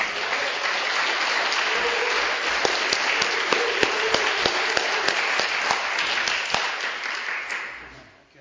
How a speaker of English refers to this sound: A big round of applause for our guest speaker.